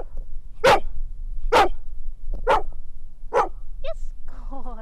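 A service dog named Missy barks four times in an even, deliberate rhythm, counting on command in the parking lot outside Best Buy in Morgantown, each bark loud, followed by a couple of short high whines and soft vocal sounds at the end.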